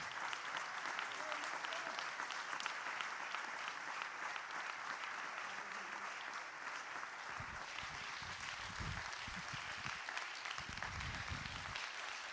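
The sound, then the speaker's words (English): An audience gives the Lord a 30-second hand clap, applauding steadily for the whole stretch, a dense, sustained wash of many hands clapping, loud, with occasional low thumps breaking in toward the end. “Would you give the Lord a hand clap? Make it a 30-second one.”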